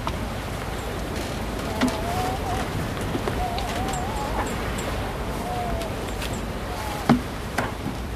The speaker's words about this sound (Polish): Muzykę świata chcemy, morza. Nie, to morza? Tego co jest na zewnątrz. Czyli tylko szum fal.